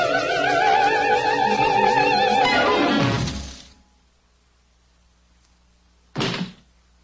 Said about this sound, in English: Hook opens the door. Smee hammers his head.